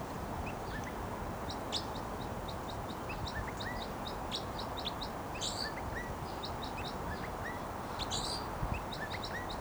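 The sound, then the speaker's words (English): A wild bird sings its flight song, a long, rapid series of thin, high chirps and trills over steady outdoor rumble, continuous without pause. “Flight song there by the wild bird who's vocalizing.”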